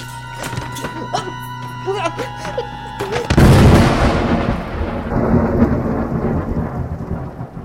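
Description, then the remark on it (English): A loud crack of thunder bursts in a few seconds in, then rolls on as a long, deep rumble with steady rain-like hiss. Brief voice-like tones and sounds come just before the crash. “No monsters to punch for weeks, and the first chance I get to work on my tan, there's a storm.”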